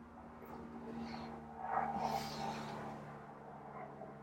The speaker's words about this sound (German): Flugzeug.